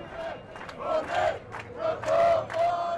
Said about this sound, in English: Cheers break out for party leader Antonis Samaras.